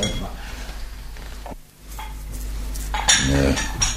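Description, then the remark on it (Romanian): Beer glasses are set down with a few sharp, bright clinks: one brief knock early on, then a quick cluster of ringing taps toward the end over a low, steady background hum. “S-a adus paharele.”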